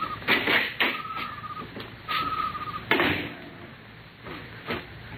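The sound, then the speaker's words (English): A door is worked open with a series of clunks and knocks, a squeaky creak stretching out between the bumps, moderately loud, with no one speaking. “Here's the door.”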